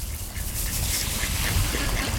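Several ducks quack continuously, a busy overlapping chorus of calls over a steady outdoor background with no one speaking.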